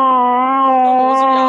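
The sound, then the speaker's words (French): A human voice imitates a fighting cat with one long, steady, loud yowl held for the whole moment, with no other sounds or talk around it. “Ça, c'est le chat qui se bat.”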